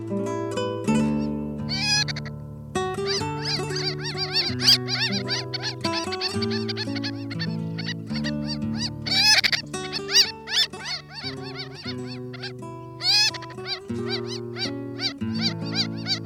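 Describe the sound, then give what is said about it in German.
A Ross's gull gives a rapid series of high, nasal, harmonic calls in overlapping bursts, with sustained low tones droning steadily underneath throughout. “Das war die Rosenmöwe.”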